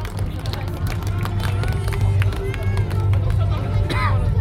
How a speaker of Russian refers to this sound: Итак, дорогие друзья, аплодисменты ансамблю …. Бурные аплодисменты.